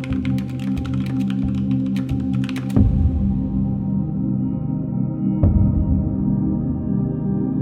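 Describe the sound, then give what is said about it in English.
Quick, steady keystrokes clatter on a computer keyboard for a few seconds, then stop with a soft thump. A low hum lingers afterward, broken by one more faint knock. “Eventually, I adjusted to typing with just the machine hand.”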